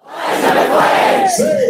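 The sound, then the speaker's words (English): A large crowd of protesters rallying against police violence shouts and chants together on an interstate in Aurora, Colorado, trying to shut it down, loud and sustained throughout, with one voice or whistle rising sharply above the roar near the end. “A crowd of protesters rallying against police violence is gathering on an interstate in Aurora, Colorado, attempting to shut it down.”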